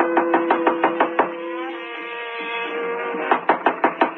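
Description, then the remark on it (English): Two quick bursts of knocking on a hotel room door on the 12th floor, about half a dozen raps each, separated by a stretch of muffled jazz from a radio behind the door that carries on faintly beneath the knocks; no one answers. “No one answers the door.”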